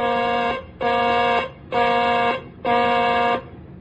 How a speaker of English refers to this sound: Ready on the warning alarm. Testing flight deck warning alarm. Testing flight deck warning alarm. This is a test.